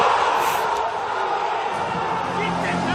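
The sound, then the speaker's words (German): A loud, sustained roar from a large stadium crowd cheering after a winning free-kick goal against Ried on 9 February 2021, a dense wall of voices and shouting that stays steady throughout. “Wir schauen gerade deinen dezenten Jubel nach dem Tor.”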